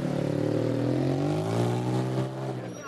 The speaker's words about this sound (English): 2.5 hours after the Gales departed for the West Bronx, the bus pulls back into the school parking lot. Their game has been suspended after 1 2/3 innings due to rain.